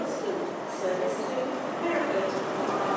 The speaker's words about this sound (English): They're now announcing my train.